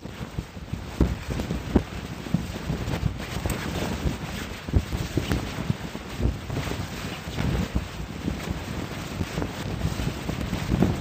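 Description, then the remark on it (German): Steady, gusty wind roars and buffets across the whole recording, with low rumbling and occasional flapping bursts, like sails catching wind on a boat out on open water. “Es ist windig, oder? Ja, ich sage einmal, Wind in den Segeln, um sowas zu drücken.”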